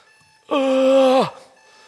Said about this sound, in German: Und die haben sich extra noch den Wecker gestellt, dass sie am nächsten Morgen auch ja früh aufwachten und dann schliefen sie ein. Und wurden dann am nächsten Tag von dem Wecker wach.